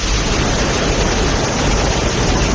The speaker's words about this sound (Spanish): Bienvenida sea, por fin llueve en la Comunidad Valenciana.